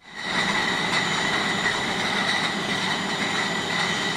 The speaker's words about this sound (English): Bottles of beer being put into crates at the Erdinger Brewery near Munich. They've been making beer here since the 1880s, but these days about a quarter of their production is non-alcoholic.